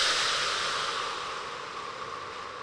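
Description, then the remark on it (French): A single long, strong exhalation, breath pushed out forcefully in a steady airy hiss that slowly fades over a few seconds, with no talking; a person blows out hard after a deep breath in during a guided relaxation exercise. “Souffle fortement.”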